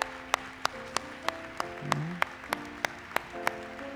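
An audience claps in a steady rhythm, a dozen or so sharp claps spread evenly across a few seconds, over soft sustained tones and a brief murmur.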